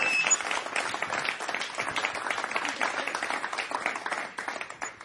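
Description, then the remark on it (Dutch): A crowd applauds warmly, dense overlapping claps rolling steadily for several seconds before tapering slightly near the end, with faint voices mixed into the clatter. “Geef een hartelijk applaus.”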